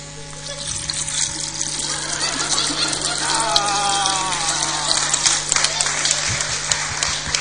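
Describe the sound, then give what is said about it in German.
Water streams steadily through a siphon tube, a continuous rushing and gurgling flow that keeps going for the whole stretch, with faint voices murmuring in the background. “Also das Wasser fließt tatsächlich hier die Kante hoch”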